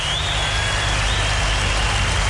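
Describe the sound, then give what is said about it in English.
An audience at a live music show claps as the host welcomes the guitarist on stage, in a dense, steady roar of applause that holds at an even loudness throughout, with a thin high whistle-like tone drifting faintly above it. “So without further ado, put your hands together right now and welcome on guitar”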